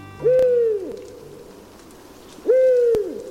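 An owl hoots twice, each call a low, drawn-out note with a slight downward slide, separated by a pause of about two seconds, clear with no talking.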